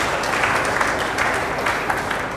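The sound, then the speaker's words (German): A crowd of people claps steadily, a dense, continuous patter of many hands at moderate volume, with no voices standing out. “Das lohnt sich, das auch wirklich bekannt zu geben und ist, glaube ich, an der Stelle auch ein Applaus wert für alle die, die sich da intensiv eingebracht haben.”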